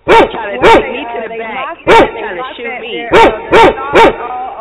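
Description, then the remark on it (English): A big, ferocious female dog barks loudly, six sharp barks in uneven bursts, while a man keeps talking between and under them. “I got this big, this ferocious dog right now.”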